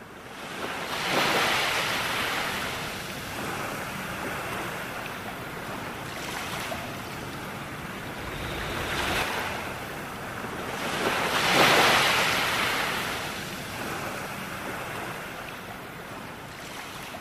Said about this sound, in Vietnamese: Vua ngồi chờ, tất cả đều yên lặng, và một con sóng nhỏ bủa vào bờ cát làm tóe nước ướt chân vua.